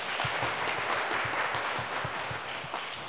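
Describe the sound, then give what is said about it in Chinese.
A church audience claps steadily in a dense, continuous wash of applause to welcome the guest pastor speaker, with no voices standing out, lasting the whole few seconds at a fairly even level. “大家鼓掌欢迎一下，好吗？”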